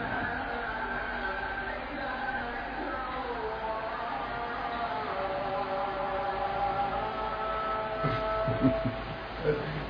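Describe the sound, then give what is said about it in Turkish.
The first Islamic call to prayer (ezan) of the day rings out in long, drawn-out melodic phrases, its wavering chanted pitch held steady and fairly loud, with a low hum running underneath. “Şu ezan ne güzel ya.”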